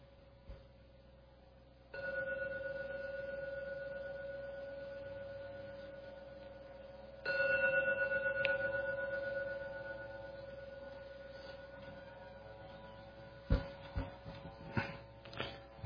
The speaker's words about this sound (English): I shall ring the gong 3 times now. When the gong finishes sounding for the 3rd time, you may open your eyes to end the meditation when the 3rd ringing of the gong disappears.